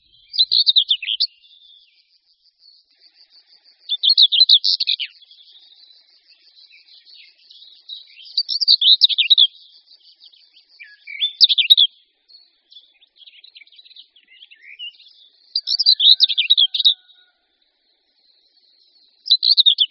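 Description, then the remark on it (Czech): A common whitethroat sings short, scratchy, rapid warbling phrases, repeated every few seconds with brief pauses between, clear, with a faint high insect-like trill in the background. “Příjemně znějící, i když trochu jednotvárně se opakující popěvek Pěnice hnědokřídlé mohou slyšet miliony televizních diváků ve všech možných inscenacích a seriálech po celý rok.”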